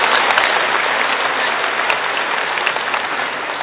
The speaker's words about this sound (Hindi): आप सबको बहुत अच्छा लगा तो जोर से ताली बजा दीजिए, परम धाम में आवाज जाए।